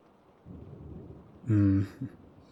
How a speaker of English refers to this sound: The rain really adds to the comfy vibe. Hey, at least we're indoors now. We're not trapped outside or anything.